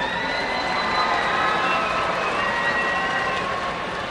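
A steady, dense wash of applause from an audience holds at an even level for about four seconds, with thin high whistle-like tones drifting through it. No one speaks.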